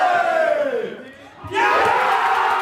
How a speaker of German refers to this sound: Auch wenn sie es nicht hören, aber der Spirit ist da. Der Spirit ist da, heißt, sie singen, klatschen fast wie im Stadion und leiten natürlich auch einen ersten Eckball mit ein.